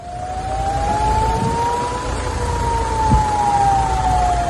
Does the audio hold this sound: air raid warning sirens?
yes